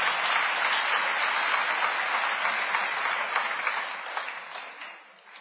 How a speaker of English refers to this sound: Are you with me on this? Or how many are with me? Just clap your hands, okay?